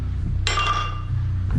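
A fine crystal wine glass with wine gives a single clink in a toast while someone is making quinoa, its bright, bell-like ring fading out over about half a second above a low, steady background hum.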